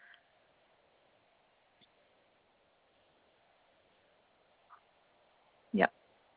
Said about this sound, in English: we've got four at the moment. So she would be three. She's an ex-battery hen. We got her almost 2 years ago.